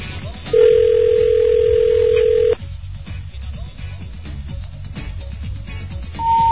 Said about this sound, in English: Well, it's ringing. For the regional phone company.